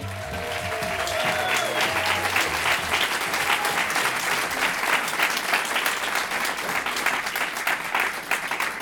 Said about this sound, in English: so you're going to keep having to clap, because otherwise it's just going to be awkward.